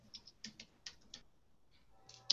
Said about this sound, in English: I'm typing. I'm typing.